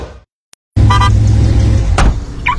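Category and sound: vehicle, car sound effect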